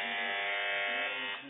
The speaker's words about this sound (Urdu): جی ہماری مجلس فیصلہ کرے کہ کس نے پہلے بزر بجائی ہے۔ مجلس کا کہنا ہے کہ ٹیم مدنی نے پہلے بزر بجائی ہے۔